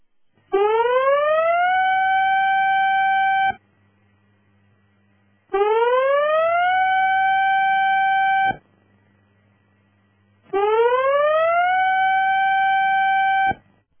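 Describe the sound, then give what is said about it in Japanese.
A tsunami warning siren, sounding as a major tsunami warning is issued with an order to evacuate to high ground, sounds three times, each blast sweeping upward then holding a steady, loud, harmonic-rich tone for about three seconds, separated by short silent gaps. “大津波警報が発表されました。今すぐ高台に避難してください。”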